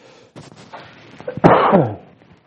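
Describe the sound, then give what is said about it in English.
A single loud, harsh cough bursts out, lasting about half a second, after a stretch of quiet background shuffling. “You guys can't hear that cough. I'm sorry.”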